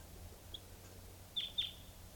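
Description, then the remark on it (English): A wild bird, a red male, calls with two quick, high-pitched chirps close together, after a faint earlier peep. The calls sound modest in volume against a quiet outdoor background hum, with no talking. “And there is a wild bird here.”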